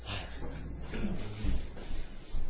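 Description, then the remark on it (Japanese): A minmin cicada (Hyalessa maculaticollis) chirrs in a steady, dense buzz that swells slightly in pulses. It is fairly loud and continuous throughout, with no voices over it. “ミンミンゼミね。”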